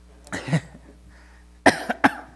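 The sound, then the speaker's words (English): A single cough rings out first, then after a short pause two more sharp coughs in quick succession, loud against a quiet background with no talking. “Excuse me, you may have to catch my cough.”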